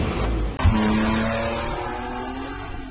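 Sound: car driving away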